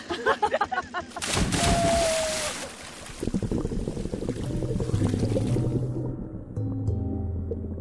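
A loud splash as people jump into the sea, followed by churning and sloshing waves, with faint voices at the start and background noise throughout.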